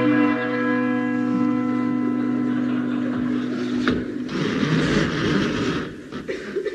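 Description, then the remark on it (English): A large, deep doorbell at the door of a manor, rung by a man who climbed a ladder, strikes once and rings out with a long, sustained humming resonance, followed by a burst of clattering noise as the tone fades. “Placing a ladder up against the door of Tintagel Manor, Mr. King Arthur Seagoon climbed up and rang the bell.”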